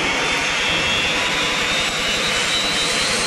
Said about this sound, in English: It is another day of war. Our night's patrols have returned. With first light, the rotors of our recon choppers whirl to life.